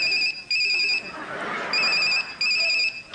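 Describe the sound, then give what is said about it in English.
A telephone rings with a bright electronic trill in two paired bursts, fairly loud, separated by a short pause filled with faint background murmur. “Can I phone a friend? All right, if you must. Who are you calling?”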